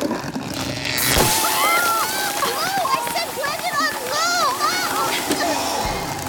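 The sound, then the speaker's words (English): A blender running on low, mixing ice cream and soda water, suddenly blows its lid off about a second in, followed by a continuous loud splatter of the drink over the counter, with excited vocal cries and wavering voices over the mess. “There must have been a power surge. It blew the lid off.”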